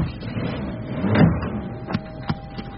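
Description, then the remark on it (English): Heavy ambulance doors are shut: a dull, muffled thud followed by two sharp slams in quick succession, with no voices. “Okay, shut the doors.”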